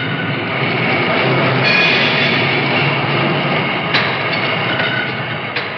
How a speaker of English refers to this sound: That's an overhead conveyor system, nearly 8 miles of conveyors in one factory. Winding through the building, car bodies automatically weave and crisscross in a bewildering maze of conveyors without apparent human direction.